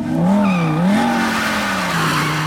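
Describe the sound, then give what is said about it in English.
A Shelby Cobra convertible sports car screeches away in a cloud of blue tire smoke with a loud, sustained tire squeal, its wavering pitched whine blending with the engine roar for a couple of seconds, intense. “Lola's sight betrays her anxiety as Darius disappears in a cloud of blue tire smoke”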